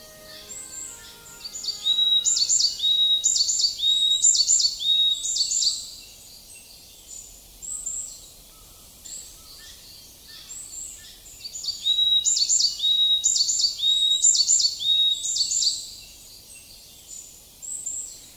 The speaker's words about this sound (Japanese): 東京原宿の明治神宮、かつての原野に樹木を植えて100年経ち、豊かな森になりました。森には多くの生き物たちが生活していて、参道を歩くといろいろな鳥の声が聞こえてきます。山柄の鳴き声です。